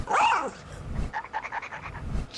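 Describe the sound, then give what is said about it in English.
Unkempt dogs that need a bath bark and whimper: a loud, pitched yelp at the start, then a run of short, high whining notes in quick succession, with no talking. “We quickly cut to a series of dogs who need a bath.”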